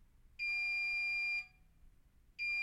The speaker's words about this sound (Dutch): Was dat nou de wasmachine? Ik dacht dat ik iets hoorde piepen.